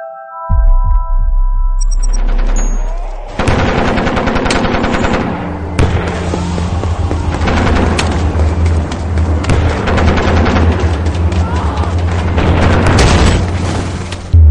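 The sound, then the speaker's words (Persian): A dense battle sound effect evoking the battles of the Great War: rapid machine-gun fire rattles almost continuously over deep rumbling explosions and booms, loud, with no voices throughout. “صدای آن نبردها و گلوله‌ها را می‌شنوم.”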